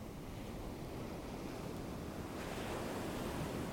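A continuous, steady wash of ocean surf fills the scene, a broad hiss of water that swells a little louder toward the end as a wave rolls in. No voices are heard.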